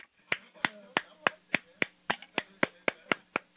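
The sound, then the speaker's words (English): A single person clapping at a steady, brisk pace in approval of a caller's WikiLeaks action figure idea, about a dozen sharp, bright claps in a row over a faint, low background murmur. “That's me applauding.”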